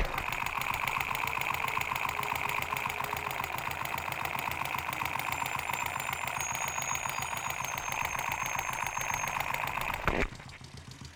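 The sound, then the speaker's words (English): A motorcycle engine's cylinders, going up and down, churn in a fast, steady mechanical pulse, picked up through a contact mic touched to the cylinder area of the bike. The sound is loud and dense, with a brief thump near the end. “I'm about to touch it to the area where the cylinders are. Maybe you can hear them going up and down.”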